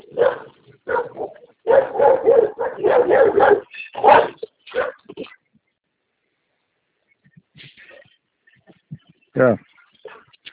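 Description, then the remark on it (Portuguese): A dog barks in a rapid, loud burst of repeated barks, then falls quiet, followed by a few softer yips and one more sharp bark near the end. “Nossa, se me morder, vai tomar tiro.”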